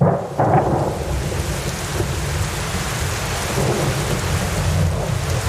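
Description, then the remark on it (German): Steady, dense rain drums continuously on a window while a deep rumble of thunder rolls underneath, filling the whole stretch with a loud, unbroken wash of storm sound and no voices. “Es hat heute geregnet. Den ganzen Tag, von früh morgens, ich hörte es schon, als es noch dunkel war, das leise Trommeln der Regentropfen an Lukas Fenster.”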